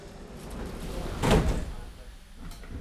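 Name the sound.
train doors sliding shut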